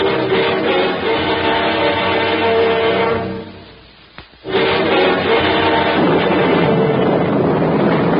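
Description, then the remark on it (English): A strong wind storm at sea roars in a loud, dense rush, briefly dying away to a low lull with a short gust, then surging back at full force. “Listen to the blow, Johnny.”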